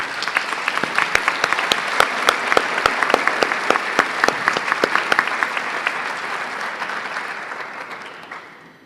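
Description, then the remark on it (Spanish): Sustained applause from an audience at the close of an event, honoring a lecture by Lorenzo García Aretio, dense rapid clapping for several seconds that gradually thins and fades out toward the end, with no talking over it. “iniciados por la magistral conferencia del maestro Lorenzo García Aretio, quien nuevamente merece nuestro reconocimiento y un gran aplauso.”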